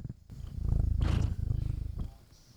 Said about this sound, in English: Oh, I can pick her up a purring. Aw. Wish we could hear it.